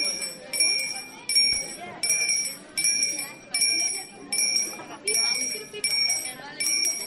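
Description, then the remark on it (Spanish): A small procession bell, carried ahead of the Veracruz procession in olive-green velvet on Holy Thursday, rings repeatedly in steady bright strokes, roughly one strike every half second, over a murmuring crowd and ambient street noise. “Terciopelo verde oliva, la Veracruz, es antecedida por la campana en el Día del Amor Fraterno.”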